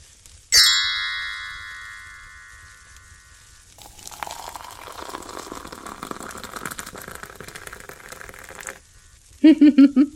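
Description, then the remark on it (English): A bright chime rings out and fades, then tea pours steadily from a kettle into a cup for several seconds, its tone rising as the cup fills, before a short burst of voice at the end. “For someone who's just had their cup filled by a floating kettle and been given pure evidence of my not being human, you are surprisingly calm.”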